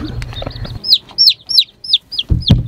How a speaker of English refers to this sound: Oh my goodness! We got four little chickies. Oh my God! I'm your mama now.